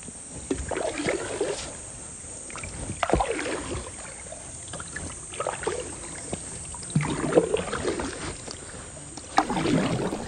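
Paddles dip and pull through water beside a wooden boat loaded with supplies as two people paddle away. The strokes come in a steady, unhurried rhythm, with splashes and gurgles and a faint hiss of surroundings. No one speaks.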